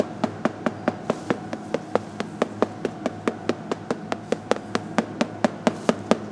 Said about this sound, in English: Experts will tap on a cheese with a little hammer to listen for cracks, bubbles, or other faults. The cheese has not been fully approved. We try to listen to the problem which is inside.